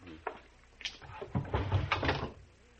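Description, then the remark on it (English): A top drawer, where the cigarette is kept, slides open with a series of wooden scrapes and knocks, a few sharp clicks followed by a longer rattling rumble, moderately loud, with no one speaking. “Where's the cigarette, Al? Top drawer.”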